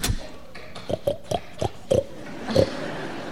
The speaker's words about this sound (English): So, that really is your pig?